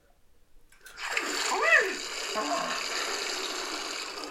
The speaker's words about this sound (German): Klar, eine kalte Dusche am Morgen stärkt die Abwehrkräfte.